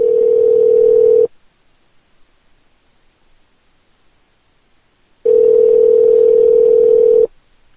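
A phone line ringing on the caller's end as a call is placed back to someone: two long, steady electronic rings separated by about four seconds of silence. Loud, with no voices.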